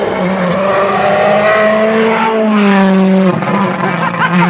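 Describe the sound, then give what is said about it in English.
A rally car roars past on a soft, sandy stage at Rally Poland, its engine note rising and then dropping as it sweeps by, with a brief tyre squeal and revving that stay loud throughout. “next car's coming through now.”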